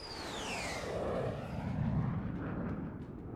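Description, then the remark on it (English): An Avro CF-105 Aero supersonic fighter jet roars past, a loud, sustained rumbling thunder with a high engine whine sweeping downward in pitch as it passes. No voices are heard. “The Avro Aero was the most powerful fighter plane in the world.”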